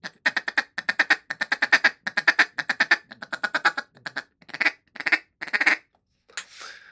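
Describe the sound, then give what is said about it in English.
A rapid, rolling run of short duck-like feed chuckle notes blown on a duck call, fairly loud, slowing into a few sharper quacks and ending with one drawn-out raspy note. “that feed chuckle, that's what it is. That's a lot of ducks.”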